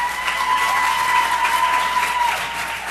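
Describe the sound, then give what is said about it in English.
A crowd at a school board meeting in Chapel Hill breaks into sustained, loud applause for a speaker during public comment, a dense steady wash of clapping hands with no voices standing out, holding strong for the full stretch. “In fact, she got one of the loudest and longest applauses from the crowd.”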